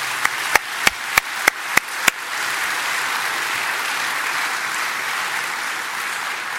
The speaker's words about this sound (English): The entire engineering team had a lot to do with this, but that core team helped pull this off. So please help me give them a quick round of applause.